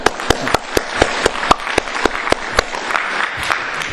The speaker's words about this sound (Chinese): 啊，牧师问你们一下，今年你们的家庭有带领一个人信主的举手一下。啊，我们替他们鼓掌一下啊！